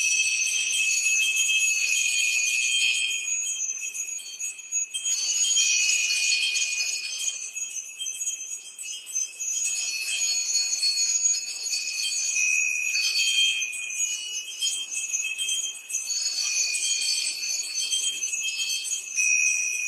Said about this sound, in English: And in that sense, we align ourselves to that sounding mountain, bell mountain, Mount Kailash, and we bring our bells.